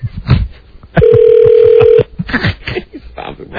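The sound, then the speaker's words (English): A telephone ring sounds as a single steady, mid-pitched electronic tone lasting about a second, loud over the background, with people talking before and after it. “Two rings.”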